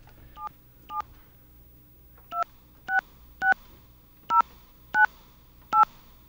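Touch-tone phone dialing: eight short, evenly loud dual-pitched beeps, one per keypress, spaced with a brief pause after the first two, over a low background hum.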